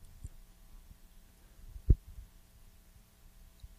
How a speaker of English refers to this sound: Can you hear my refrigerator? No. Oh, what? What is that? I think it's still your heat, isn't it? Nope. Do you have a computer underneath your television? Maybe. Sounds like a computer fan.